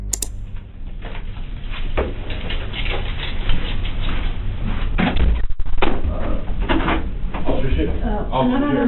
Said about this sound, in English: Angela starts to panic and attempts to open the door to ask detectives a question